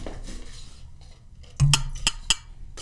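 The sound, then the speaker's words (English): Glasses clink together in a toast to 2020 before drinking shots, three or four bright, ringing taps in quick succession after a low murmur of background noise, with no voices. “Let's cheers to 2020.”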